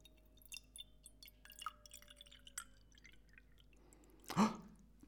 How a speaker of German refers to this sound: Und das andere Glas, das mache ich jetzt fast ganz voll.